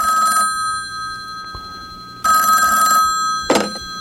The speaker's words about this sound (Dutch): Het wil me even niet te binnen schieten, dan maar even een hulplijn bellen. Hopelijk wil mijn lieftallige assistente vandaag de telefoon opnemen.